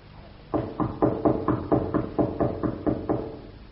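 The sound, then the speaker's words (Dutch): A steady series of about ten firm knocks on a door that is bolted from the inside, evenly spaced and fairly loud, with no voices over them. “Nou, laten we nog eens kloppen.”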